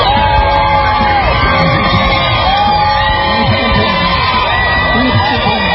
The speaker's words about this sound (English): The crowd cheers as President Trump leaves the hospital briefly, waving from an SUV.